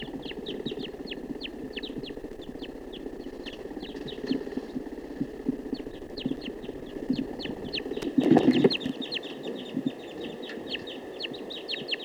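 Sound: wild male bird calling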